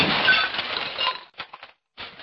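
A loud crash of Dresden and Sèvres porcelain figurines being smashed by communists in an apartment in Prague, followed by a few scattered clinks of falling shards and one more brief smash at the end.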